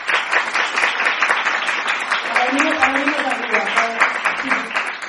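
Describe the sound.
A crowd applauds a guest being introduced, steady for about five seconds, the dense clapping holding an even level throughout, with a faint voice or cheer rising briefly beneath it midway.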